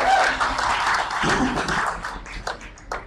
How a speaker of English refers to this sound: Your parents make the rules. Can I get a hand clap on that?